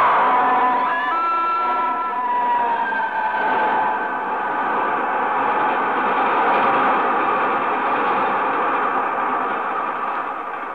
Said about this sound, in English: Now there's another train coming the other way.